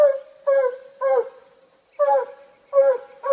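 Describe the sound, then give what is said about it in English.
A hunting hound bays at a raccoon it has chased up a tree, in a run of about six loud, drawn-out, tonal barks with a steady moaning hum between them, with no talking. “Meaning he's chased a raccoon up a tree and is barking up after it.”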